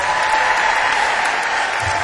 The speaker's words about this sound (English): give me a big round of applause for …